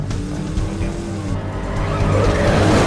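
A race car's engine roars loudly and continuously while its tires squeal and skid as the rear slides out, the noise swelling slightly toward the end.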